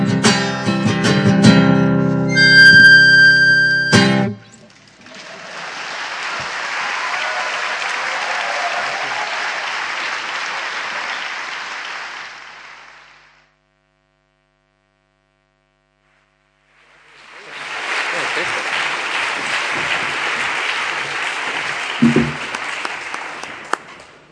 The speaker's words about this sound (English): Could you all just give another big round of applause to everyone that spoke? They were all really, really fantastic, I think.